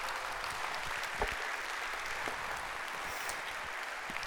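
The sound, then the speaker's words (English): A crowd at a worship service claps steadily in a dense, continuous wash of applause, sustained at an even level throughout, with no voices standing out. “You guys can give a round of applause for these guys.”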